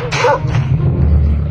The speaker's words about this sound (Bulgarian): О, какво, голямо куче? Моля те, остави ме! Моля те! О, слава Богу, отиди си. Да, аз съм толкова грозно, че дори кучето не иска да ме изяде.